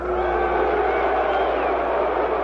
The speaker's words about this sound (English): The challenger, Charles Sonny Liston, is no stranger to the boos of the crowd.